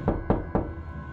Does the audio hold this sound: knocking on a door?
yes